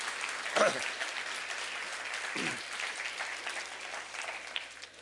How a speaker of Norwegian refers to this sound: Gi henne en skikkelig applaus der oppe.